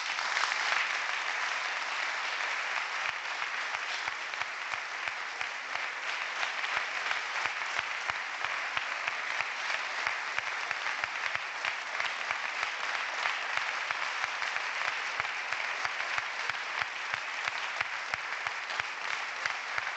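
Sustained applause from a large crowd after the 18-minute pregó (proclamation speech) given by a band's lead singer, a dense, steady wash of clapping that holds at an even level for the full twenty seconds with no voices breaking through.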